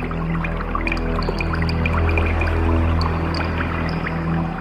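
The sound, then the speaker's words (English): Scattered, bright water-drop plinks fall at an irregular pace over a steady, layered synthetic drone of low sustained tones, in a space data sonification drawing on Chandra X-ray data and Very Large Array radio data; the water-drop sounds represent background stars. There is no talking. “The water drop sounds represent background stars.”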